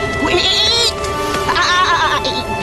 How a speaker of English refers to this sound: That's the goat.